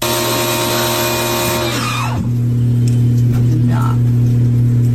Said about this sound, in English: He's trying to pressure wash the house. He pressure washes the front door.